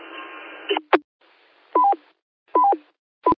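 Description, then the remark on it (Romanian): A burst of radio static hiss cuts off with a click, followed by a few short dual-pitched DTMF keypad tones from a Baofeng handheld or a mobile radio transceiver, in an uneven sequence, clear, with no talking. “Ce dore mi era de un ton de Baofeng 8 sau mobil.”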